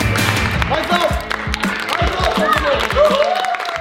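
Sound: applause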